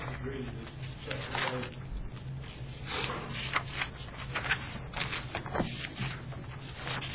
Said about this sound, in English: Why am I turning the pages?